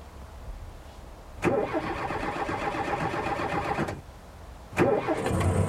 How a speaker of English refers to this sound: Try that engine now.